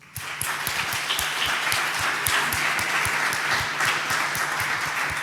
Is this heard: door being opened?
no